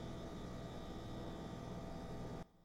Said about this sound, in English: Oh, and there goes the fridge. I am sorry. I hate that fridge.